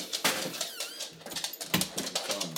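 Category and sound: animal, dog whimpering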